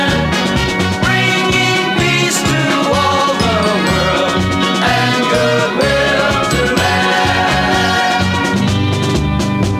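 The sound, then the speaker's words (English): Bright bells ring out in a steady, loud cascade of high metallic tones, layered over full instrumental music with no voices. “Or was it the bells from the village below?”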